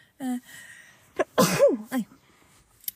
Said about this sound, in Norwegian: Nå må jeg egentlig nyse, men det går bra.